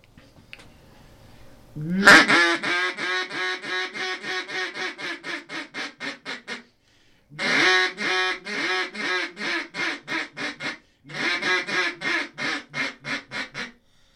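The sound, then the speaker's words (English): A checkered walnut duck call with ivory inlays blown in a loud, rhythmic hail call: three long runs of rapid, descending quacks, separated by short pauses. No one speaks. “So the first part of this call is a hail call.”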